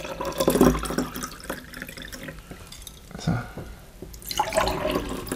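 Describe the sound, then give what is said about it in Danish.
Water is poured into drinking glasses, two gurgling pours with a rising splashy tone as each glass fills, separated by a short pause, and a single brief spoken word in between. “Så jeg har et glas vand til os, hvis du vil have.”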